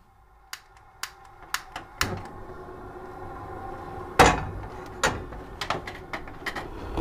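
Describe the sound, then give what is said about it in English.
A knife chops carrots against a cutting board in sharp, crisp knocks at an uneven pace, with one heavier thunk midway and a faint steady hum underneath. “Well, chopping carrots is relaxing for me, specifically when I'm angry”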